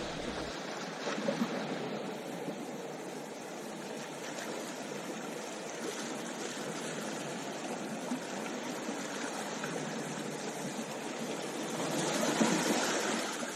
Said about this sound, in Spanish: ¿Han ido al mar? Escuchemos los sonidos de la playa.